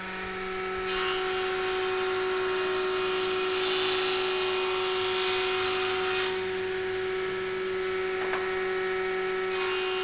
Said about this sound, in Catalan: Ara aquí tenim l'esquadratjadora, que vaig esquadratjar una porta per deixar-la ja de mida. I bueno, sentireu un pot de soroll del tema de la màquina, però... Ja ens agrada, així sentim com sona.